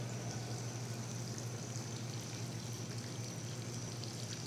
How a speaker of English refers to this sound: The pool has a waterfall, and oh, it's just going to be so nice to fall asleep to.